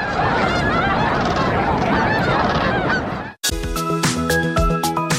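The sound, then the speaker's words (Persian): A large flock of cranes calls at once, a dense, loud chorus of overlapping trumpeting cries for about three seconds, then cuts abruptly to instrumental music. “دلاروسو میگوید محبت و شوق مردم محلی را در گروه دوستان باسک دلاپاچی جمع آورده است و هر سال آنها جشنواره تورنه‌ها را برای دوستداران پرنده‌ها و عکاسان تشکیل می‌کنند.”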